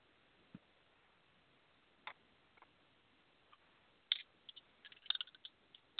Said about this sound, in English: it sounds like Dax and Sharona are shuffling the cards as we speak